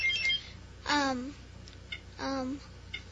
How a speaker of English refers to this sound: Okay, since nobody knew, I'm going to give you an additional clue. And now it's again open for buzzer.